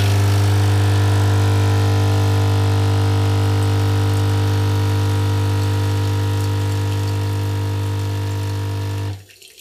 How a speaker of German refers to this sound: So, der Espresso läuft wieder, aber in dieser Folge werden ein paar mehr laufen.